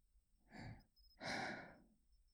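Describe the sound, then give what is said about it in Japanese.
Two soft, airy breaths blown very close into the listener's ear, a short one followed by a longer, fuller exhale, intimate and breathy with no speech. “こんな風に耳に吐息のかかるような、いたずらはこの辺でやめておきましょうか。”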